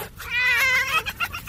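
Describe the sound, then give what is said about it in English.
A ticklish fox being tickled gives a high-pitched laughing cackle, clear: a drawn-out wavering squeal breaks into a few quick chattering yips, with no talking over it. “Watch two ticklish foxes.”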